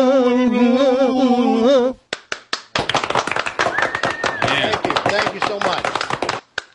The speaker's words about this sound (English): Why did the applause just cut? You cut their mics off? No, they just stop like that. They shouldn't do that. They should let it trail off.